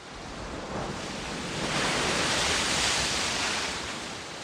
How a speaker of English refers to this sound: The waves of the Pacific Ocean roll across the beaches of California. By every reckoning, the world's biggest ocean, it's about 170 million square kilometers.